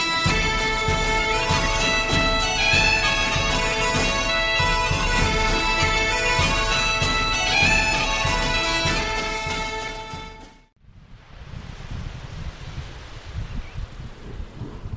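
Music plays for about ten seconds and stops abruptly, leaving a steady, hissing wash of sea waves on the shore at Ballyskellig that swells and eases at moderate loudness.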